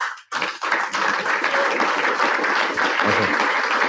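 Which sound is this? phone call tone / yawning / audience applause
audience applause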